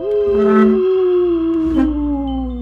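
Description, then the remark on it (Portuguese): A woman imitates a dog's howl, holding one long, loud, steady wail that slowly drifts downward in pitch, alone with no talking. “Do nada, um cachorro? É ela. Ela tá imitando um cachorro.”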